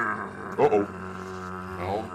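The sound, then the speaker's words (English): A large protective dog growls low and steadily, the rumble surging louder for a moment early on before settling back into a continuous, menacing snarl. “is a protective dog. I can see that.”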